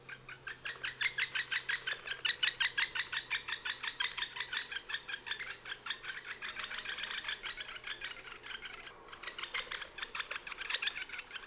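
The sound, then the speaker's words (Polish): An excited pair of great spotted woodpeckers trill steadily at their nest hole, a long run of rapid, fairly soft chirping syllables repeating without pause, rhythmic, with no talking. “Para podnieconych ptaków przy dziupli wydaje długie trele złożone z niezbyt donośnych, ćwierkających sylab.”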